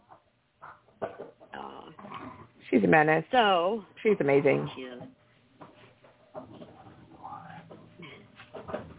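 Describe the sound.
A dog whines and yowls in two loud, drawn-out bursts with rising and falling pitch, while a person talks before and after.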